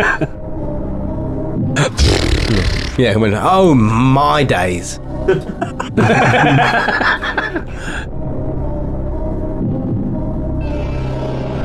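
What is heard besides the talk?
blowing nose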